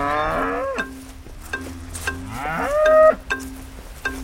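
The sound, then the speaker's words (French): Jersey dairy cows moo loudly on a farm, one long low call followed by a second rising moo, with faint clanking like a cowbell and soft farmyard noise between calls. “Oui, depuis 25 ans, j'ai acquis des vaches laitières de la race jersiaise, une race qui produit un très très bon lait pour faire du fromage.”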